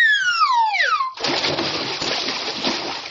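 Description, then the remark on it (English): A falling, whistling slide drops in pitch for about a second, then a loud splash bursts into the Arctic Ocean and keeps churning and sloshing to the end. “I said on to it, not into it.”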